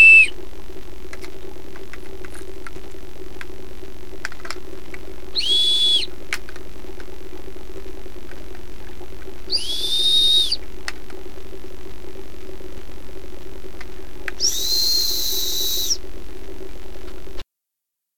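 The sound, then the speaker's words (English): Four short, steady whistled tones, played as a demonstration of frequency, sound a few seconds apart, each pitched slightly higher than the last, over a constant low electrical hum. No one speaks. “So what was up with those four whistles?”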